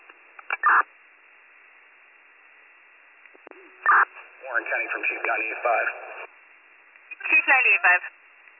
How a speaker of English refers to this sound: I'm dropping tones now.